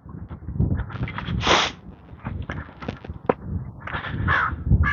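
A crow sitting at the top of a pine tree caws repeatedly in harsh, rasping calls, loud, with short pauses between bursts over a background of outdoor noise.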